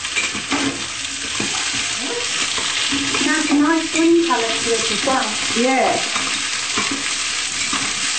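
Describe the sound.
Steady sizzling of asparagus spears, cut into small bite-sized pieces, frying in a pan, with scraping stirring sounds throughout, fairly loud, while a person speaks briefly over it.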